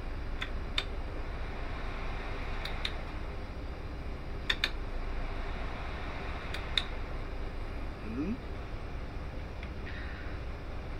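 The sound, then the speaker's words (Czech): An electric fan runs with a steady, even whoosh of air from start to finish, joined by a few sharp mechanical clicks in quick pairs at irregular intervals. No one speaks. “Ventilátor.”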